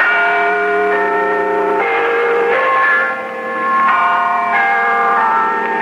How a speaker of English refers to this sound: The chimes of Big Ben are apparently being broadcast by Argentina in a propaganda effort which also echoes a technique of another war, a kind of Buenos Aires rose.